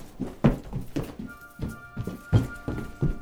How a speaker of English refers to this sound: All of a sudden, there was a knock at the door,